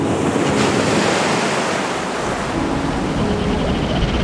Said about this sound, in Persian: دریا همیشه آروم نیست. بعضی وقتا هم موجش اونقدر سنگینه که میتونه همه چیشو به خودش ببره.